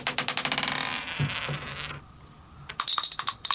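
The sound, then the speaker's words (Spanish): A marble rolls and clatters in a quick series of bright clicks that blur into a rattling roll, fade to a soft rumble, then return as sharper, spaced ticks. “Y los que aparentemente no respiran, también tienen su modo de producir música. Por ejemplo, a ver, Sophie, pon un ejemplo. Una canica que rueda.”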